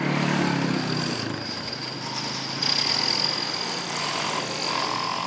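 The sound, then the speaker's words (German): Heavy engines rumble steadily as trucks roll past a dusty parking lot 100 metres from the train station in Pfaffenhofen, Upper Bavaria, with jackhammers and bulldozers from a nearby construction site; a constant high-pitched mechanical whine above a low drone, with a brief swell in loudness midway. “LKWs rauschen vorbei, im Hintergrund dröhnen Presslufthammer und Bulldozer von einer nahegelegenen Baustelle.”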